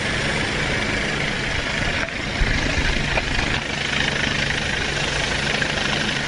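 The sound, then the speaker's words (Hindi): A helicopter, of the kind the government uses to spray poison over standing crops in fields, drones loudly and steadily overhead, its engine roar and rotor noise filling the whole stretch without letup, with no voices. “सरकार कभी हेलीकॉप्टर से जहर छिड़क कर खेतों में खड़ी फसल खत्म करती है तो कभी सेना के जवान जाकर इन फसलों को आग लगाते हैं।”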